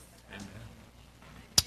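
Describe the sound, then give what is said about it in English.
A single sudden sneeze from the speaker's mother bursts out sharply near the end, a short explosive puff of noise after a stretch of quiet, faint murmuring. “Bless you, Mom.”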